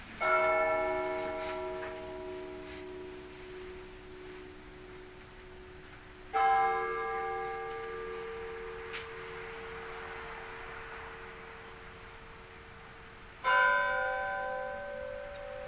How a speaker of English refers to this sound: You can see how different it's, each bell has its own unique voice. I can recognize by now hundreds of Russian bells just by their voice, just as you would a person.